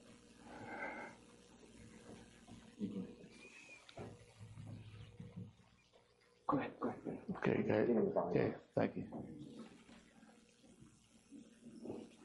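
A preacher in a church gets a drink of water before starting a sermon: a loud, rough burst of pouring and handling noise lasting about two seconds, surrounded by quieter background sounds and faint movement.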